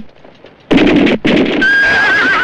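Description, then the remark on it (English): Loud horse whinnies burst out after a quiet start, a brief gap, then a sustained shrill neigh with wavering pitch over a rough, noisy commotion, as frightened horses bolt and soldiers tumble into the dust. “Panic reigns as frightened horses bolt and soldiers tumble into the dust”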